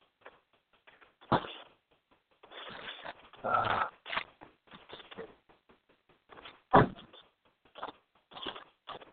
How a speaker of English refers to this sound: Well, folks, I've reached my destination here, so if it sounds like I'm shuffling around, I am, because I'm trying to grab my stuff and get out the car.